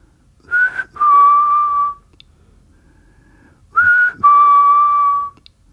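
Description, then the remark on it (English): A person whistles an old ancestral call twice: a short rising note followed by a longer steady tone, repeated after a pause of about two seconds. The whistle is clear and loud against near silence. “I whistle an old whistle.”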